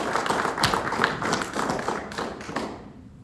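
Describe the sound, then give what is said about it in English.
A church audience applauds members who brought flowers and helped decorate the church, a dense wash of many hands clapping at once with a few sharper claps standing out, holding steady before tapering off into quiet at the end. “Let's give these a round of applause.”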